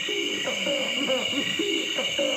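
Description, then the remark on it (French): A red-footed crake, a rail, recorded in Africa gives a run of low, hooting, wavering notes in quick, rhythmic succession over a constant high-pitched drone of insects, with some frogs and cicadas in the background. “Je vous le dis à l'avance, il s'appelle le râle à pied rouge, et on a du mal à penser que c'est un oiseau.”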